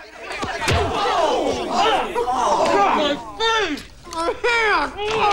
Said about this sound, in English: Topper bends his ear. Kent lunges. Topper punches him on the jaw.